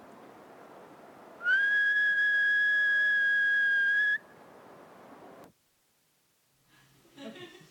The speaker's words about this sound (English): And this is the spot where I'm going to start this little field recording. I will now whistle to synchronize the starting of the two recordings.